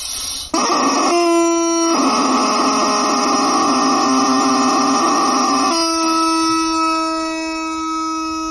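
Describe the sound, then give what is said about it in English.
A rubber chicken toy squawks loudly and continuously for several seconds, its nasal, buzzing wail shifting pitch a couple of times as it is squeezed, with no talking over it. “We got one of my favorite tools, the chicken.”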